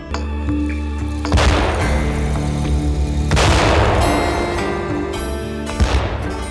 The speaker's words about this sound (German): Es hat gedauert, bis sie kapiert haben, dass das Schüsse waren.